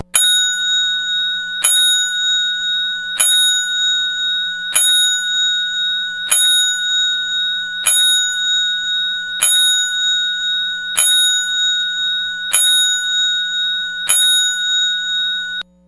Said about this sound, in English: Sorry about that. Little 5-10 bell salute for Ted Webb, and we'll do that throughout the show.